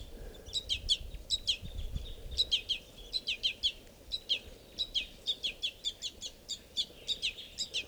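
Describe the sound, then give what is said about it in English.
Rapid, insistent high-pitched chirps repeat in quick bursts, a young bird's begging calls as it sits right next to an adult male at a water hole at 7:20, with some lower bird chatter mixed in over a low outdoor rumble. “I'm sitting right down at the water, and this is a begging baby sitting right next to a male.”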